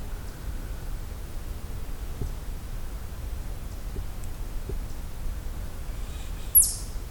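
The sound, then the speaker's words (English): A single short, high-pitched call from a young bird rings out near the end, standing clear above a steady hiss of outdoor background noise with faint rustling. “It's a young bird of some kind.”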